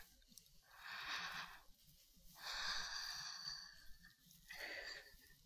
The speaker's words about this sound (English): What do you hear around you? Can you hear me? Can you hear my breathing?